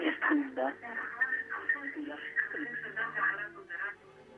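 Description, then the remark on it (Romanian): A caller's radio set plays in the background of a phone call to a radio show, its tinny, narrow-band voice audio running steadily at moderate loudness for several seconds, muffled as if picked up through the telephone line. “Nu vreți să dați aparatul de radio mai încet?”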